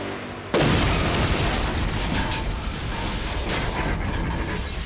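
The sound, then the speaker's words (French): A sudden, loud terrorist bomb blast against the wall of a tower erupts after a brief quiet moment, followed by a sustained, rumbling roar and crackling debris that continues without fading. No one speaks. “L'impact de l'explosion sur le mur de la tour fut colossal.”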